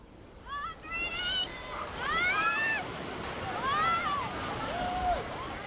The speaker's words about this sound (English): Children chase waves at the giant wave pool at the Geyser Falls Water Park.